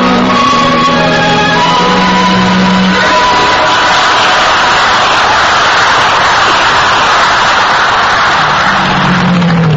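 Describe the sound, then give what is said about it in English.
A large crowd shouts and cheers continuously and loudly throughout, a dense roar of many voices with a few sustained low droning tones rising out of it at the start and end. “Oh, my gosh, look at the crowd.”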